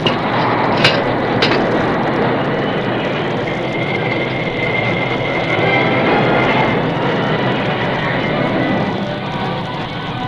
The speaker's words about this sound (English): As the old work engine squealed to a stop, the Lone Ranger glanced out the cab window at the curving sweep of track beyond.